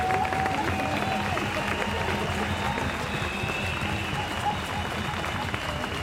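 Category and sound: crowd, crowd applause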